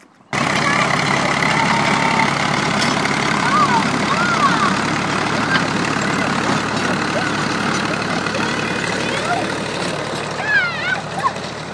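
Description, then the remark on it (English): A farmer's tractor that has just arrived runs with a steady, loud, low engine rumble that continues unbroken for the whole stretch, with faint higher chirps occasionally poking through the drone. “Our tractor and farmer has arrived, so he's now going over us.”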